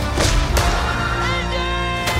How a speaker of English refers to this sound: Also confirmed, not only the return of Sala in Indiana Jones, but the Indiana Jones punching sounds, of course, making a comeback in this movie.